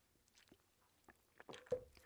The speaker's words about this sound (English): You got to stop and take a little sip of water.